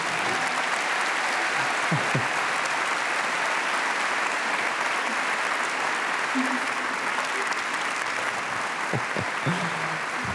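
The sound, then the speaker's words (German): Steady, loud audience applause greeting a woman who escaped from North Korea, a dense wash of clapping hands that holds at an even level throughout, with faint voices now and then underneath. “Und sie ganz, ganz mit einem riesigen Applaus jetzt zu begrüßen.”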